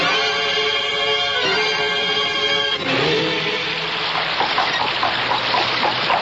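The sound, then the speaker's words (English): A steady, loud roar of rushing water from a river swollen by spring rains, where the bridge is down, preceded by a droning hum that gives way to a dense, churning wash of sound. No voices. “The bridge is down. Those damn spring rains.”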